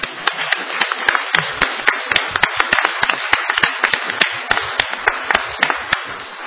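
An audience applauds the speakers steadily before pre-lunch announcements, many hands clapping in a dense, continuous patter of sharp claps, fairly loud and even throughout, with no voices over it.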